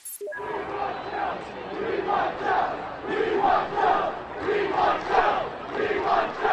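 Thousands of students shout and chant continuously in the streets of downtown State College in the immediate aftermath of the firings, voices swelling in rhythmic surges over a steady roar of many people yelling together.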